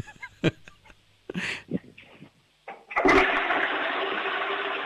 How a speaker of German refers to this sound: Wow, ihr habt aber eine laute Klospülung. Das gefällt mir. Das mag ich.